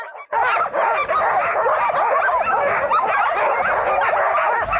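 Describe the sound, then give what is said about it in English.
A chorus of sled dogs, ten of them hooked by harnesses to a multi-person sled for training, yelps, whines and howls continuously in excitement, many high-pitched overlapping voices, loud and frantic with no pause for the whole stretch. “As they get lined up, some dogs are borderline screaming in anticipation, while others are jumping up and down.”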